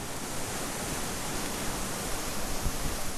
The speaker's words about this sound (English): At three-quarters of a mile, the river begins to roar, and down a steep bank, I stand before a heavy waterfall that dumps out through a chokehold tower of stone into a wide pool.